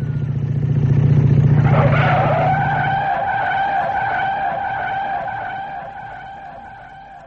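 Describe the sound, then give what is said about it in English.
A motorbike engine roars loudly for a few seconds, then a long, high tyre screech takes over and slowly fades as the bike skids and speeds past. No talking. “There's a bike coming and it's too fast.”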